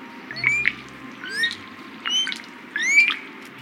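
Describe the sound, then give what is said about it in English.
Wild birds call outdoors at the Grand Canyon in a series of four bright, sweeping chirps and whistles, spaced about a second apart, with a faint low rumble of ambient background noise underneath. “the Grand Canyon also offers a unique habitat for birds, some very rare.”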